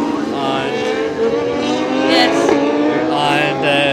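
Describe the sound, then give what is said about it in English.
Racing motorbike engines whine loudly and continuously around a small track of about a mile and a half in the UK, the pitch shifting as bikes rise and fall in speed, with a faint murmur of voices mixed underneath. “It's not a very big track, it's about a mile and a half. It's one of the smallest in the UK.”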